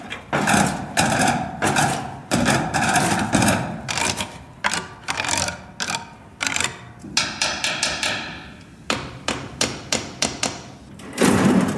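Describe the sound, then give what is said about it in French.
A stick beats repeatedly on a farmer's tractor and metal shed as a sound artwork, producing loud clanging hits in irregular rhythmic bursts, each strike ringing with metallic tones that shift in pitch. No one speaks. “Il tape avec un bâton sur son tracteur, sur son hangar, et ça donne ceci.”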